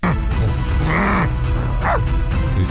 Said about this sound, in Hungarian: Ugass már egyet, hagyd nézzem már meg, milyen a kutyád. Ötös! Ötös, jó a kutyád!